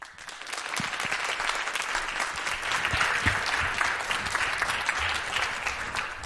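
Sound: warm applause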